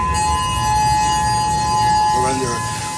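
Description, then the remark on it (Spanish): A steady, unbroken tsunami warning siren holds one high pitch with ringing overtones for the whole stretch, while a voice speaks briefly over it near the end. The alarm was set off by waves of up to 4 metres that followed a major earthquake and hit Russian territory. “Pero sobre todo, lo que ha provocado el terremoto principal inmediatamente han sido grandes olas, hasta 4 metros, que han afectado a territorio ruso y que han hecho saltar las alarmas después en hasta 8 países.”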